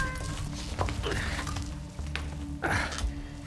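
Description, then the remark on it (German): A cat meows twice at moderate volume, a short call followed by a longer, clearer one, over a steady low background hum. “Die Katze muss an eine Geheimvorrichtung gekommen sein.”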